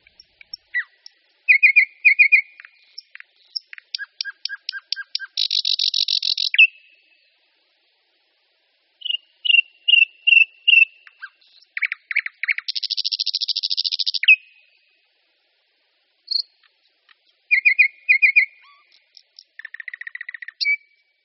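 A thrush nightingale sings loudly in clear, separated phrases: rapid clicking notes, piping whistles and long, buzzing rattles, with brief silences between bursts and no other sounds.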